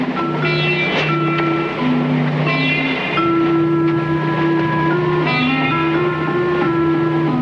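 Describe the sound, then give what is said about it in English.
A boat, the Wanderer, cruises steadily on the surface toward another boat, the Royal, a loud, continuous rushing wash filling the scene, with sustained droning tones layered over it and shifting pitch every few seconds. “Meanwhile, on the surface, the Wanderer cruises closer to the Royal.”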